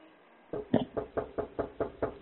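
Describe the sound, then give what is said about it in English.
A rapid, forceful series of about nine heavy knocks pounds on a door in a steady rhythm, loud, beginning after a brief quiet moment with no voices. “Is that the Open the fucking door! Open up!”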